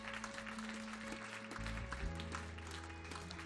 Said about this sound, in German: Hey, gib doch mal denen, die das jetzt gesprochen haben, Applaus. So cool.